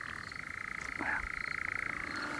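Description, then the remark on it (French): A tree frog and a toad calling together, forming a steady, rapidly pulsing trill that runs without pause through the whole stretch, fairly loud, with no voices. “Tu vois, t'as deux amphibiens différents. Il y a la rainette et puis le crapaud. C'est pas du tout le même bruit.”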